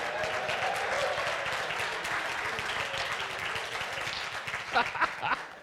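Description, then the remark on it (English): An audience applauds the performer who played Haman, a dense steady wash of many hands clapping that holds for several seconds, with a few louder, sharper claps standing out near the end. “A round of applause for our Haman here.”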